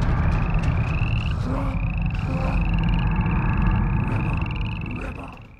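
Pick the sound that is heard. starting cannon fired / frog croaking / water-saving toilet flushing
frog croaking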